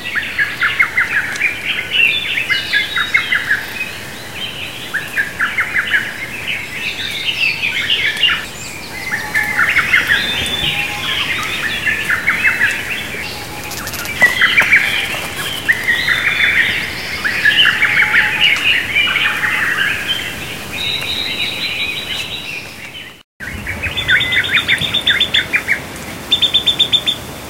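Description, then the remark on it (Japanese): A lesser cuckoo calls amid a dense, continuous chorus of bright chirping birdsong, loud, with a brief break near the end before the calls resume. “今のはホトトギスでした。”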